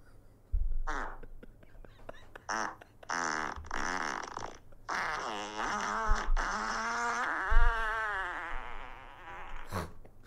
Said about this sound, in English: What? I've been added to a group where men record themselves farting.